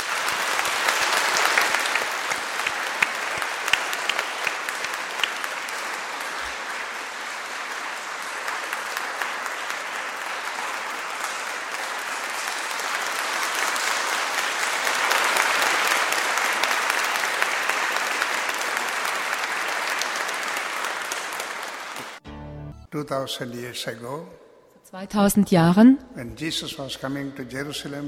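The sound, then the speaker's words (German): An audience claps steadily for about twenty seconds in applause for Jesus, a dense, even wash of applause, which then cuts off as a single voice begins speaking. “Und so lasst uns jetzt diesem Jesus einen großen Applaus geben.”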